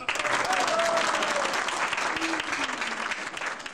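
An audience applauds steadily for a few seconds at an evening celebration, applauding the successful completion of a 1993 concert: a dense wash of many hands clapping at an even loudness, with a faint sliding whistle or cheer rising and falling above it.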